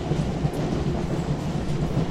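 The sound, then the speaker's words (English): A train rumbles steadily along the rails at low speed, a continuous deep mechanical drone with faint rattling and no voices. “Oh shit, it's crawling through really slow.”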